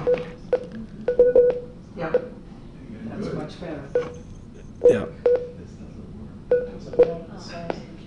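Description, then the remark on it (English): A phone gives off a string of short electronic beeps in irregular clusters, clear, over a low background murmur of voices. “Now it's getting a little beep here. You're getting beeps.”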